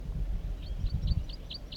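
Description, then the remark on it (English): A wild bird calls in a quick, evenly spaced series of about six high, thin chirps, over a low rumble of wind and outdoor background noise. “Wild bird in 4-3 calls to the side.”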